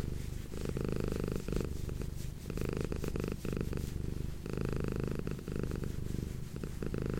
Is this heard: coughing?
no